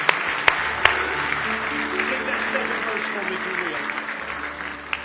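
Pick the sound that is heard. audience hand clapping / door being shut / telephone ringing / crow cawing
audience hand clapping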